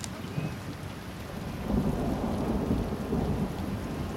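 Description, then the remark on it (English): Steady rain pours down with a low rumble of thunder underneath, swelling slightly louder midway through. The sound is broad and continuous, with no voices present. “Tristan is out there in the rain somewhere.”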